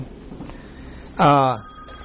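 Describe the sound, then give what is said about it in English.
A telephone rings once in a short, bright, loud electronic burst, standing out briefly against a quiet murmuring room. “That's not my phone, is it?”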